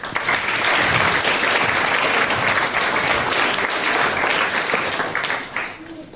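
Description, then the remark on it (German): An audience applauds the Clean Air Everywhere project steadily for about six seconds, a dense, even wash of many hands clapping that holds at full strength before thinning out near the end. No one speaks over it. “Von daher einen großen Applaus zu Clean Air Everywhere.”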